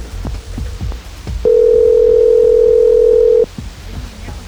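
A loud, steady telephone dial tone hums for about two seconds, bracketed by soft low thumps and clicks like a receiver being handled, as a call is placed using AT&T to the Nicholson Estate in Los Angeles, California. No one speaks.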